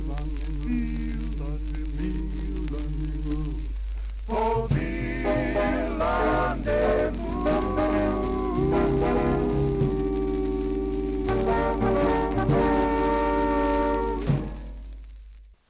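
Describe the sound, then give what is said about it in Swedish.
An instrumental Swedish folk tune plays steadily with sustained melodic notes, starting with a softer passage before fuller, brighter instrumentation joins in; no voices are heard, and it fades out at the end. “Visst var det en härlig låt, det här med flickorna i Småland.”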